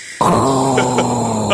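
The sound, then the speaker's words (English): A voice imitates Darth Vader's heavy mask-respirator breathing: one long, raspy, droning breath that starts abruptly and holds steady and loud. “I can just breathe. I'll do the breathing. You do the voice.”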